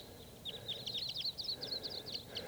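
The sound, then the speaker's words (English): A flock of about 15 to 25 type 2 crossbills moving through, calling: many short, sharp, high-pitched notes overlapping in a busy, irregular chatter over a low, steady background rumble, with no voices. “A huge flock of crossbills is around here somewhere. Sounds like type 2.”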